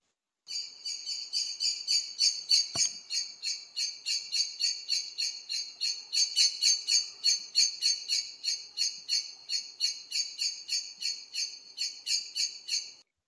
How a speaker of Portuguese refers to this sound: Este é um som que o melro faz quando vai a fugir, a voar. É claro que é mais uma vez, como é um chamamento, também é assim um monossílabo